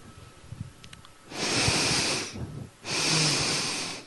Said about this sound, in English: Moving into our third chakra, the breathing for this one is two sniffs through the nose, and we'll sound out on a ho or a ha.